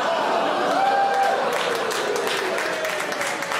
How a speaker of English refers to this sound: It's like three men clapping.